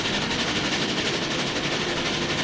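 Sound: train running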